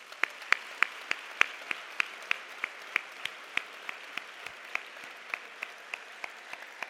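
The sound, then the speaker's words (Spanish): Scattered audience applause: a steady run of distinct, crisp claps at a fairly even pace, tapering slightly over the seconds against a soft background hiss, with no talking. “Y por eso pido un aplauso para todos vosotros.”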